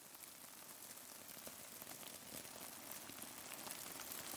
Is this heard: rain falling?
yes